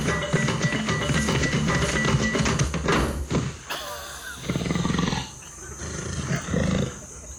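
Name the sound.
lion roaring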